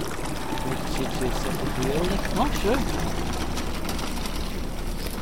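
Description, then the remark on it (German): A hand trails through cool water beside a boat in Solothurn, making a steady rippling wash that runs the whole time, with a brief murmur of voices partway through. “Hey, ich merke jetzt auch, ich habe ständig die Hand im Wasser.”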